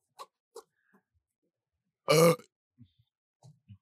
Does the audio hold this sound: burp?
yes